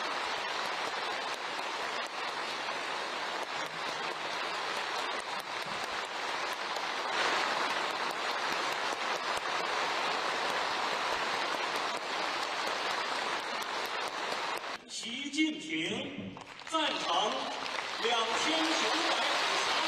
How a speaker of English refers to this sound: Well, take a look at this video. They are not surprised, but they are dutifully standing and clapping.